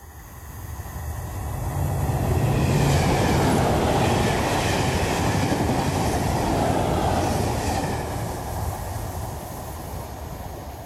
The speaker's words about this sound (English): This is what it sounds like when a high-speed train hits a person on a level crossing.